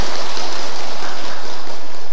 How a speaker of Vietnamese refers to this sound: chúng ta phải tán thán công đức của các vị trưởng lão ở đây đi, cho một tràng pháo tay tán thán ạ.